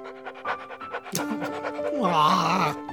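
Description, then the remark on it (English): A puppy pants in quick, rhythmic breathy bursts while licking to give a kiss, accompanied by a steady, higher-pitched whining tone that wavers and bends toward the end. “The puppy's giving me one last kiss.”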